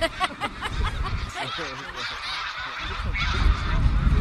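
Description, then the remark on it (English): A large flock of hundreds of geese flying overhead in a V formation honks, many overlapping calls forming a continuous clamor that swells louder toward the end, with a breezy rumble underneath. “The longer arm has more geese in it.”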